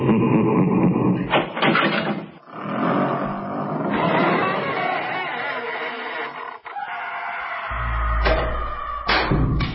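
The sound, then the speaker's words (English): A heavy dungeon door creaks open in a long, loud, groaning screech that wavers in pitch for nearly ten seconds, ending with a deep rumbling thud. “Matt Johnson, will you please open the dungeon?”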